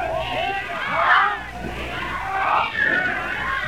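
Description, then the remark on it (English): A large crowd at Downing Street clamours with overlapping shouts, many people calling for quiet as a speaker holds up his hand before a speech, a dense, continuous roar swelling twice in loudness. “Everybody shouting for quiet.”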